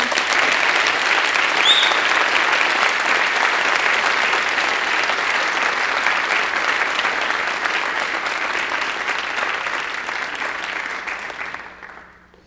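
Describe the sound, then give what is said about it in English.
Sustained applause from a sizable audience for students at EMU, a dense steady patter of clapping that holds strong for about ten seconds before tapering off and ending abruptly. “Please join me in giving these students a round of applause.”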